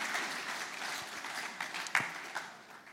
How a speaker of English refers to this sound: Now, thank you so much. Can we get a round of applause for these guys? And thank you.